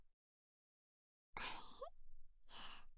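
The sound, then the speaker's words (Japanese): A long, breathy yawn that starts abruptly after a stretch of silence, with a brief pause before a second exhaled breath trails off, fairly loud. “お兄さん、あくび大きすぎ。”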